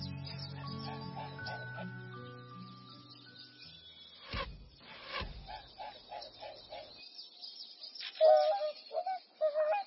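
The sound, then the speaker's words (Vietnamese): Swans call while flying in short, repeated honking bursts, growing louder toward the end, after soft background music and two sudden sharp thuds. “Chào các bạn Thiên Nga. Các bạn đang bay gì đâu vậy?”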